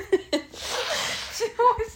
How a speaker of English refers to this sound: Stop blowing your nose.